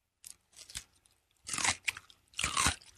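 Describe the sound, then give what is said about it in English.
Wet crunching as someone bites into a crisp Mount Olive pickle and chews, with a few short crunches followed by two louder, longer bursts of chewing, and no talking. “go ahead, bite that pickle.”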